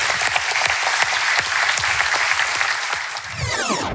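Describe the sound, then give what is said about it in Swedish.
A crowd applauds steadily at a live show on the Open Session tour, dense clapping filling the whole stretch at a fairly loud, even level before cutting off abruptly at the end. “Tack, applåder.”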